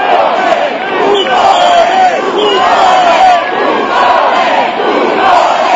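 A large, angry crowd outside the presidential palace in Rome shouts and jeers at Silvio Berlusconi's arriving motorcade, calling him a buffoon and a mafioso and demanding his resignation; many voices overlap in a loud, dense roar with rising and falling chants and yells throughout.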